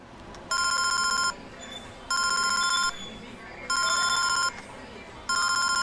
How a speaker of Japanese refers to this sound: 山田さんの携帯電話に突然身に覚えのない電話番号から電話がかかってきました。